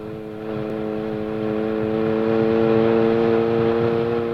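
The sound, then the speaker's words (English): The powerful engine of a red sports car drones steadily with a strong harmonic hum, growing slightly louder as the car passes, with no talking. “Is the sports car passing us? Yes, it is.”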